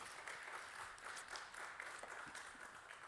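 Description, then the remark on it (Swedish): An audience at a Christian service applauds the musicians after worship music, clapping steadily and densely for a few seconds, a continuous wash of applause from many hands with no voices standing out. “Ge dem en applåd, säger man på svenska. Give them a hand.”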